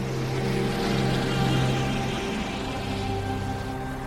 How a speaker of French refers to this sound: Alors, je vais vous mettre aussi un casque sur la tête. L'hélicoptère, c'est assez bruyant.